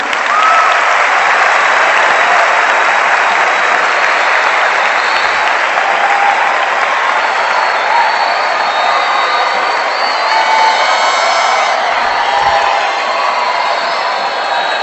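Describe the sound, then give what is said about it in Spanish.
A large crowd of young Panamanians at an assembly claps steadily and loudly for about fifteen seconds, a dense, continuous wash of applause with a few scattered shouts and cheers rising from within it. “El experimento de sociología consiste en esta pregunta: ¿es posible para los jóvenes panameños aplaudir sin gritar?”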